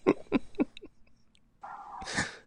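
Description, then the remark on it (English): A dog barks three quick times in a rapid burst, followed by a drawn-out whine-like sound ending in a sharp, sneeze-like snort. No one talks over it. “Do you hear a dog barking in the background?”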